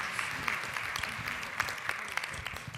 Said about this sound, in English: So y'all go ahead and put your hands again together again. Let's welcome the crowds as they come and share.